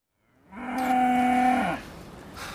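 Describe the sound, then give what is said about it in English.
A single long moo from a cow that is down at Grange Farm, loud, rising in strength then cutting off after about a second, with faint ambient hiss afterward and no one talking. “Cow down at Grange Farm.”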